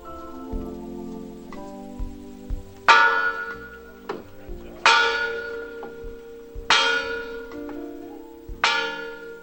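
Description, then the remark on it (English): A large church bell, saved from the 1963 bombing of the 16th Street Baptist Church in Birmingham, is rung by hand by participants and tolls four times in a slow, steady rhythm, each heavy strike ringing out with a long shimmering decay, loud, with faint patter in the background. “Each of the participants ringing the bell, a child being lifted.”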